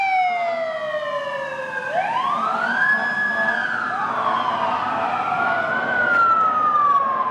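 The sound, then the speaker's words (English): An emergency vehicle siren wails loudly around town, its pitch sweeping down and then rising in long arcs over steady road noise, with no one speaking. “If you've been hearing a lot of sirens lately as you drive around town, you are not alone.”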